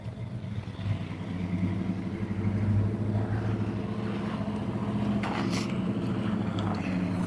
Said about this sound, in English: Could have made that a little swifter, couldn't you? This guy in apparently a diesel truck.